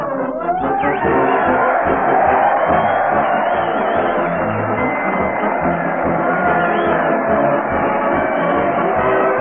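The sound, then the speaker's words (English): A loud, dense crowd cheers and shouts continuously as Fred Allen leads his parade to the old Town Hall, a roaring wall of many voices with whoops rising above it, while a steady low drumbeat from the big bass drum he carries thumps underneath throughout. “Listen to that crowd cheer as Fred Allen leads his parade to the old Town Hall.”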